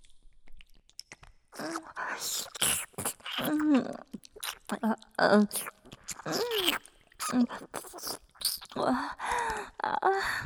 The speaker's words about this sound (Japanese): お耳ももっと深いところまで舐めて差し上げますからね。